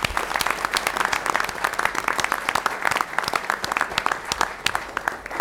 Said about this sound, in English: So please join me in giving a round of applause.